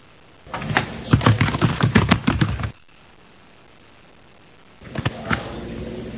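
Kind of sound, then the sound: household object, keyboard typing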